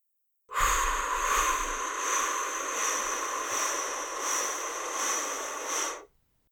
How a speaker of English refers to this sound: So breathing in for a count of four, through your nose. Holding your breath for a count of seven. And then blowing out through your mouth for a count of eight.